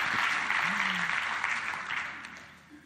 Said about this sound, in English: One more time, put your hands together, show your love for